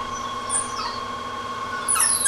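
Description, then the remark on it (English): An electric motor, started with a green button, drives a line shaft running end to end of a drop-stamp shop, turning overhead wheels and pulleys. It gives off a steady, droning, tonal whir, with high whining squeals that sweep up and down and get louder near the end. “There goes the whir.”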